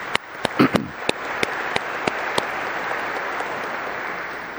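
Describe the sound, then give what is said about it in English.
The people of St. Joseph's Parish give themselves a round of applause, a dense steady wash of hand claps with a few sharper individual claps standing out at the start, holding at an even level for several seconds. “Joseph's Parish, and I think we should give ourselves a round of applause.”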